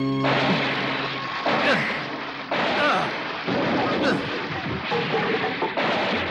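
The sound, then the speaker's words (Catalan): A run of heavy, booming punches and kicks strikes a stack of hollow barrels about once a second, each hit loud, over a constant roar of water gushing and splashing out of the barrels. “En Tenshin clava cops de puny i puntades a un munt de barrils, en fa rajar aigua”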